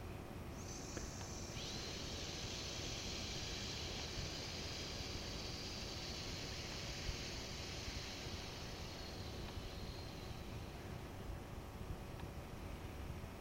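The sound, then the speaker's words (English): A long, steady hissing exhale done as a breathing exercise, breathy and fairly soft, that starts early, holds for about ten seconds, then fades out over a low background rumble. “Now once again, we're going to hiss and watch the armpits soften and deepen.”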